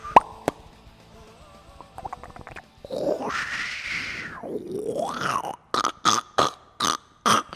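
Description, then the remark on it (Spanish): A voice mimics a turd plopping into toilet water: a couple of sharp clicks, a long gurgling, pitch-sliding groan, then five or six quick, loud wet plop bursts in rhythmic succession. “En estos momentos podemos ver cómo el mojón cae al agua.”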